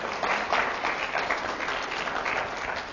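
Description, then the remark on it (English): Steady applause from a church audience for the mother of a newborn baby, a dense wash of many hands clapping at a fairly even loudness, with no voices breaking through. “I mean, she deserves an applause for that.”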